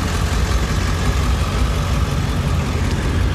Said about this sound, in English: I got the truck warming up here.